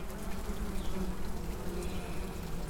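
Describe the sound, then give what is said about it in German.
A bee buzzes steadily and continuously, its low droning hum holding an even pitch and loudness for a few seconds, with no voices. “So eine Biene lebt ja super gerne in der Stadt.”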